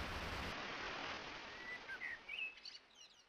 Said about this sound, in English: Rain.